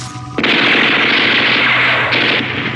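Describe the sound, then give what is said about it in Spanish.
Several guards fire guns at once in a dense, continuous barrage of overlapping shots, bullets hitting the walls of a hall, loud and sustained after a brief quieter lead-in, with no voices. “Varios guardias disparan simultáneamente.”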